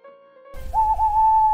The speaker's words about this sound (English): Again the owl. The crying of the Scops owl.